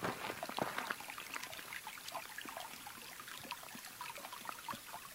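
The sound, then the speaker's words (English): A small stream of running water across the street, running down the side of the road, trickles and burbles steadily, with a continuous wash of splashing and many tiny bright droplet sounds, fairly soft and without any voices. “Across the street, there's actually a little stream. That's what I was hearing.”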